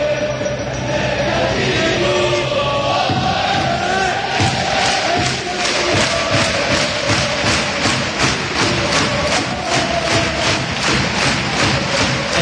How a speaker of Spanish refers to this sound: escucha a la afición ahora porque va a gritar recreativo.